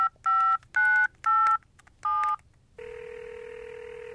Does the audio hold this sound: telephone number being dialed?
yes